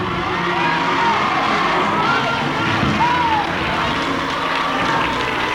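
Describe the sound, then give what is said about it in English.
A large crowd shouts and cheers continuously, a dense, loud roar of many voices with scattered whoops rising above it. “you have the spirit of the consciousness of our revolutionary God, then you would know what we're shouting about.”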